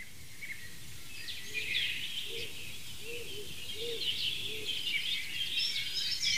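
A dove gives a short series of soft, low cooing notes, about five in a row, heard against a busy background of higher chirping songbirds in an outdoor setting.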